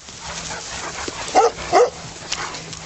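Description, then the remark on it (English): Dogs give two quick, excited yipping barks close together over a steady outdoor hiss as they are let through a gate into a large field on a farm, then quieter yelps and scuffling follow. “He opens the gate to this sprawling field, and the happy dogs go bounding off and exploring.”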